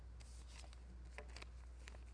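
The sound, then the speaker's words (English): Soft, crinkly rustling of a sheet of paper being handled, a few brief scratchy bursts over a steady low hum, with no one speaking. “For example, I have paper here.”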